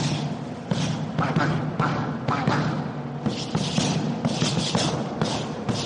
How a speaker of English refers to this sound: I want you to start out nice and comfortable, throwing combinations into the pad.